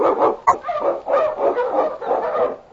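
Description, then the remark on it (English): The Wonder Dog King, an Eskimo husky lead dog from The Challenge of the Yukon, barks and yips excitedly in a near-continuous run of loud, overlapping calls, with one sharp bark standing out early on. No one speaks. “The Wonder Dog King, swiftest and strongest of Eskimo lead dogs, blazed the trail through storm and snow for Sergeant Preston as he meets the Challenge of the Yukon.”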